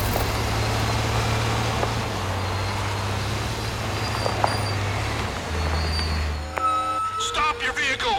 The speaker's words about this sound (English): Stop that truck! Poor visibility, Sarge. He's got a major smoke screen going on.